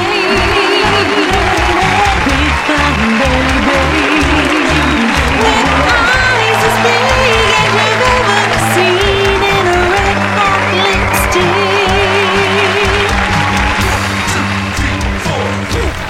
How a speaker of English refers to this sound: don't you love that applause? I do. It makes me feel like a rock star. Me too. When I'm feeling down, I just come down and play the applause for myself.